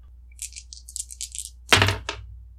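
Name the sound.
dice rolling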